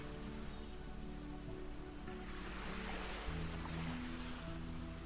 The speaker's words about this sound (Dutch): Dan drijf je langzaam richting het strand en zachtjes word je door de golven neergelegd op het warme zand.